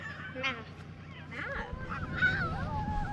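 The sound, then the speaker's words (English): Several children gathered at the top of a snowy hill howl at the waning gibbous moon in a cloudless sky, long wavering wails rising and falling and overlapping one another over a steady low rumble. “In the background, kids gathered at the top of a snowy hill howl at the waning gibbous moon, hanging in the cloudless sky.”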